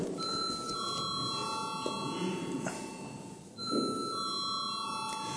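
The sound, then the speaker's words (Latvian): A steady electronic bell signal in a parliament rings with sustained high, bright tones before a vote on a personal income tax bill, briefly dropping out partway through before resuming, over a low murmur of a crowded chamber. “Lūdzu zvanu.”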